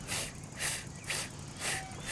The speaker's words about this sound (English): Oh, it's a tractor. See it coming this way? On on a cart that looks like it's filled with hay. Yep, they're going on a hayride.